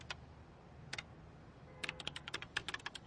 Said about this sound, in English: It was nearly midnight, and all was quiet in Biotop City's police station. All that is, except for the slow tap-tap-tap of Two-Toes O'Malley's claws on his computer keyboard.